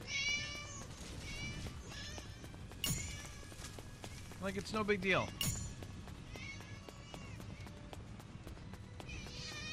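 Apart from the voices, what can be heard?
cats meowing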